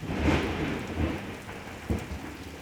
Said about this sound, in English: The rain continues to pour down.